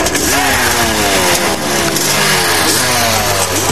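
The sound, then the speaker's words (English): The engine of a light three-wheeler, the superchargers team's vehicle, roars to life as it is turned on before a race and revs hard, its pitch climbing and dropping in repeated surges, loud and continuous throughout with a raspy, buzzing tone. “He's turning it on.”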